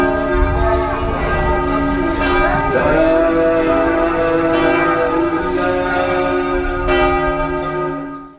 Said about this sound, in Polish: W Jerozolimie biły dzwony